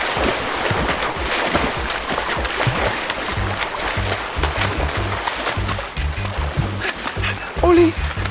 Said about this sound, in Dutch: En Olly belandt samen met de kapotte duikplank in het water.